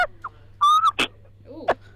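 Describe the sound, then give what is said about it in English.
A person whistles an imitation of a tui bird call, with a quick run of varied notes: a sustained harmonic whistle, sharp clicks and clucks, and a rising-falling chirp, clear over a low hum. “Okay, yeah, it won't be as good as …'s, but it's going to be a tui again.”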